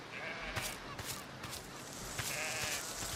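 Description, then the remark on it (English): A sheep in a video game set on an island bleats a couple of times, the calls fairly quiet against a steady background hiss. “Oh, there's a sheep.”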